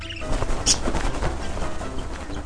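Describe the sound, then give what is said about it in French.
A single short, high-pitched tit call rings out once over a steady background of soft rustling and pattering, moderately loud. “Le corbeau se transforma en mésange.”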